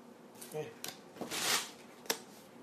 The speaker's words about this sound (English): And you're shuffling the cards?